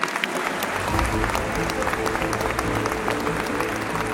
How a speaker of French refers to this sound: Ça fait plaisir de vous voir. On est à chaque fois plus nombreux. Nous sommes aujourd'hui plus de 1500. Applaudissez-vous.